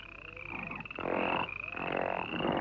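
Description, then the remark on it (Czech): A dense chorus of many frogs croaking at once, loud and close, with a steady high trilling layer over bursts of throaty, rhythmic croaks that swell and overlap throughout. “O bohyně žab, Hekt, která dáváš dech života, dej, ať jsou tu žáby.”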